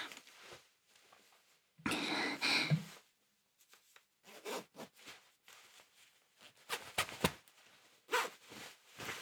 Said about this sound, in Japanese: 早速、チャックも開けて脱いでいきたいと思います。